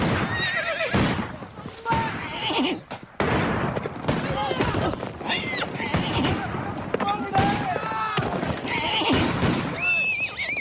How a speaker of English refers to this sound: The horses rear up and buck their riders as Confederates snipe from the surrounding trees.